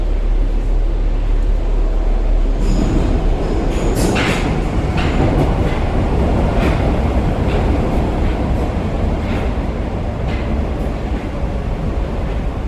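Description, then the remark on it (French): A continuous low rumble of metro trains passing through tunnels, heard from inside a metro station set back from the network, heavy and booming, with faint metallic squeals and clatter drifting in from a distance; no one speaks. “Et donc on entend bruire le trafic au loin, on est vraiment comme dans une cabane ballottée par les vents.”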